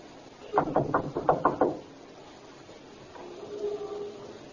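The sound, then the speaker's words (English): Police officers knock on a front door: a quick run of about six firm knocks, evenly spaced and fairly loud, followed by quiet and then a faint, low murmur of a voice. “Knock again.”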